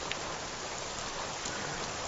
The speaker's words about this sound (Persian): نه من میخوام یه خورده بارون بخورم. پس منم اینجا میمونم بارون میخورم.